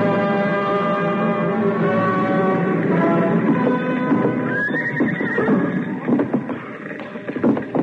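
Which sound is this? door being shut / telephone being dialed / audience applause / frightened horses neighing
frightened horses neighing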